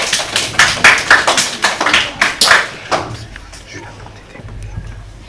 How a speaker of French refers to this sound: Applaudissez-les bien fort.